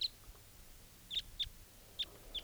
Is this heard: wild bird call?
yes